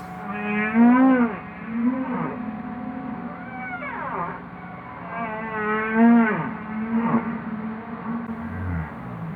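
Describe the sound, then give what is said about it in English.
Humpback whale song in the ocean: a series of long, wavering, very deep moans and sweeping whoops that rise and fall in pitch, repeating in a slow rhythm against a low rumbling background, with no talking. “So humpback whale song is a means of communication, and it can move between different pods of humpback whales, which can be, you know, miles and miles apart.”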